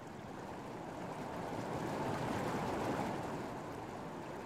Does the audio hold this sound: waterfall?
yes